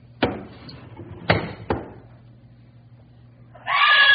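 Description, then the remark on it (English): Three sharp knocking bangs ring out like a door being hit, then a woman suddenly lets out a loud, frightened scream that cuts off at the end. “what's the matter? Why'd you scream?”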